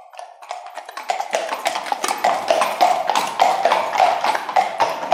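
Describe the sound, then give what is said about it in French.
Horse hooves gallop in a quick, steady clip-clop rhythm, fairly loud, with many rapid strikes and no voices over them. “Oh, si tu galopes trop fort, ça me coûtera la vie.”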